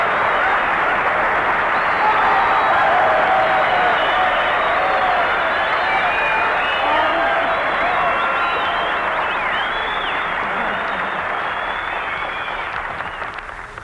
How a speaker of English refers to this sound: Well, listen to that. You know, Virginia, you got more applause than I did.